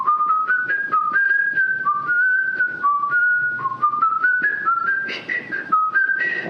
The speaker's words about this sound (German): Also es ist aus der Halle des Bergkönigs, ne? Das ist das Motiv von Edvard Grieg. Stimmt, ja, Edvard Grieg. Und ich glaube gar nicht, ich hatte es gar nicht so lange gepfiffen, wie ich jetzt gerade,